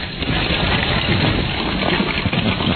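A steady cascade of small sharp-edged plastic pieces being poured into an original PS2 box, a dense rattling clatter that runs continuously for a few seconds, fairly loud, with no talking.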